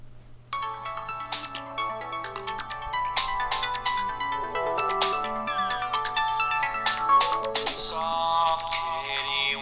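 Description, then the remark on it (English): A custom phone ringtone, made from an Audioboo recording, plays a busy, bright electronic melody of quick repeating notes over a steady low hum, continuing at an even volume with no one talking. “So just to prove that I have the ringtone, here it is on my phone when it rings.”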